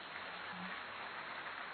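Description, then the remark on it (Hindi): A crowd claps steadily throughout for the performers from Bhilai, a dense, even wash of many hands with no voices standing out. “आप सबको अच्छा लगा होगा तो एक बार और ताली बजाएंगे”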